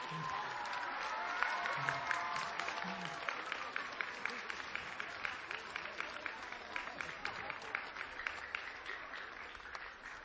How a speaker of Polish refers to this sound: Kolejny, brawa dla niego.